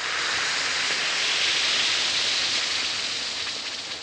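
A steady, bright fizzing hiss of an Alka-Seltzer tablet dissolving in water, dense crackling bubbles sustained at an even level throughout with no voices.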